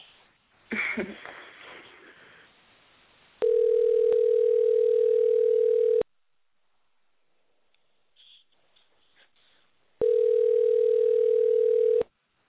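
A phone call from the Intune Show to a guest rings out: two long, steady, mid-pitched ringback tones separated by a few seconds of quiet, preceded by brief clicky handling or dialing noises. No one speaks.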